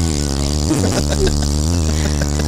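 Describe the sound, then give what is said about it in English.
A steady electric motor hum from a Walmart motorized mobility scooter, with a dense stack of buzzing harmonics. It dips and shifts briefly in pitch partway through, then holds an even drone to the end. “I don't know that I have the sound of a scooter. No, that's perfect.”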